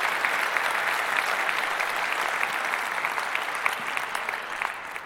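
Steady applause from an audience fills the whole clip, a dense, even patter of many hands clapping at a constant loudness with no one speaking over it.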